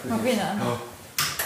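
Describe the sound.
Dishes clatter in two quick, sharp bursts near the end, fairly loud, following a stretch of low murmuring voice-like sound.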